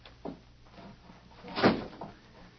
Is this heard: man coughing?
no